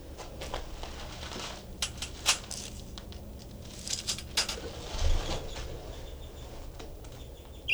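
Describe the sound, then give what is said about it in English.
A bird in a cage with its door opened imitates a finch call: scattered short, high-pitched chirps and twitters, fairly faint, with soft fluttering and pattering sounds between them and no talking. “That was him giving a finch imitation.”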